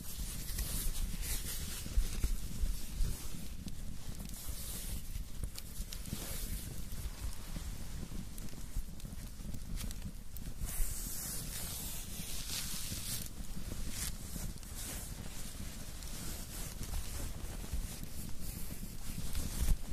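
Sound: rain starting to fall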